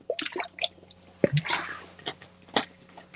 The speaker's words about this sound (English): By the way, give me a second. I gotta take a sip from this bottle.